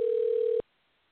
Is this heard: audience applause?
no